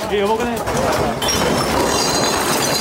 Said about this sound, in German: In einer Bar rutschen die Gläser und Getränke von der Theke. Alle merken es sofort, das Beben ist stärker als alle anderen in den vergangenen Monaten und Jahren.